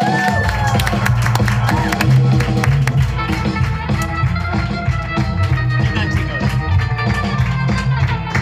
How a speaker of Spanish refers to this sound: Voy a pedir un grandísimo aplauso para un humorista, ilusionista, tarotista.